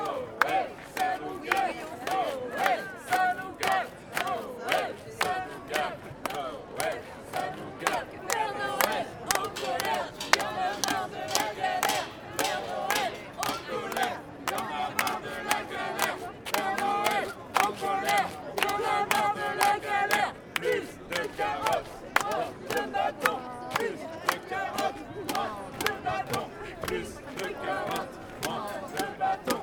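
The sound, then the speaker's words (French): A protesting crowd of activists in green hats shouts and chants continuously against a reform project on taxing decarbonised sleighs, many voices overlapping in a loud, dense roar with sharp rhythmic bursts and claps punctuating the din throughout. “Les activistes se sont ralliés sous la même bannière, en bonnet vert, réclamant l'abandon du projet de réforme sur la taxation des traîneaux décarbonés.”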